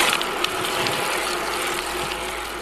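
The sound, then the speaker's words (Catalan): A bicycle freewheel ratchets steadily, a fast, continuous stream of dense mechanical clicks at an even loudness throughout, with no voices. “El so de la bici en marxa, no?”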